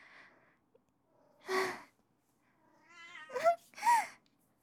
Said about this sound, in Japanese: 猫ちゃんだって大丈夫ですって言ってくれてます。